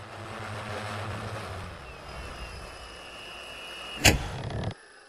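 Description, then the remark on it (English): A steady mechanical hum with a high whine slowly winds down as an Aleph flying car docks and settles, then a sharp clunk and a short hiss as its door opens, followed by near silence. “your Aleph just docked. Get in.”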